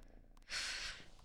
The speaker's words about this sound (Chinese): 洞里都睡着了，都打呼噜了，比你打的还响。